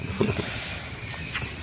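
A steady outdoor chorus of frogs croaking, a continuous buzzing trill at moderate volume with brief lower croaks near the start, and no talking.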